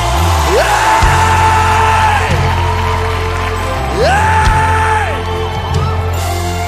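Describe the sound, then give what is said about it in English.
A large crowd screams and cheers loudly to Jesus without pause, with rising whoops breaking out over the roar while a steady, deep musical drone sustains underneath. “Now, can we scream one more time to Jesus?”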